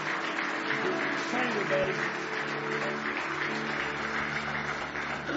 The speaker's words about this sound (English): Aren't you glad about it tonight? Can you give Him one more hand clap of praise?